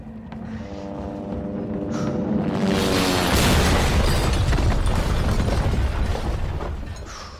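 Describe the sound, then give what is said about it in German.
A helicopter crashes into a building, blocking the way onward inside it: a droning engine whine with steady tonal hum gives way after a couple of seconds to a loud, roaring crash and rumbling debris that lingers to the end. “Und plötzlich kracht einfach mal ein Helikopter ins Gebäude und versperrt den weiteren Weg innerhalb des Gebäudes.”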